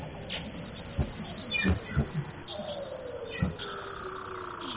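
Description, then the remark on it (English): An underwater seal trill: long descending whistle-like glides sliding down in pitch, mixed with scattered clicks and pops over a steady high-pitched hiss, with no voices. “And the calls are also used, like that trill call is thought that it's used to sort of defend the area against other males.”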